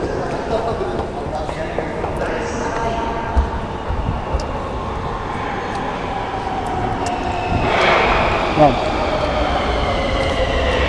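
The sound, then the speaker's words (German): Steady rumbling of a subway train in motion, a broad continuous roar with rattling clicks, swelling louder near the end as the noise brightens briefly. “Auf in die U-Bahn.”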